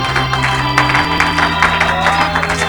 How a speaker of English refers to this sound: Somebody clap your hands in this place.